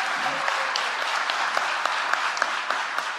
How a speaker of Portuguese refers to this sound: Mas eu quero dizer que o Sérgio Sá é um ministro tão bom, que não terminou o mandato, já foi chamado para ser secretário da Cultura em São Paulo. Merece aplauso.